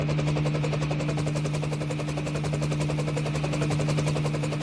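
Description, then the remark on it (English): A Sikorsky UH-60A Black Hawk military helicopter's rotors thump in a rapid, steady rhythm over a constant turbine drone, loud throughout, with no voices. “Micah piloted the Sikorsky UH-60A Blackhawk”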